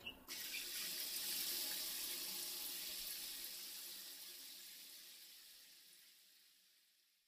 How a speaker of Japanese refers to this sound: さすがに匂うよね。早くシャワー浴びちゃおう。